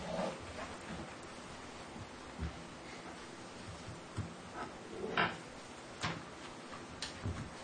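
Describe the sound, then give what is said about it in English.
A wall clock ticks quietly in a meeting room before a Board of Adjustments meeting, its soft clicks repeating over a low background hum, with occasional faint rustles and no one speaking. “Since that clock's a little bit slow up there, according to mine, I'm going to start the meeting right now.”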